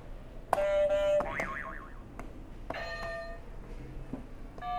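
Electronic game buzzer sound effects as one of several buzzers is hit: a steady beep, then a wobbling boing-like warble, and a brighter tone after a pause, all moderately loud over a faint background hiss.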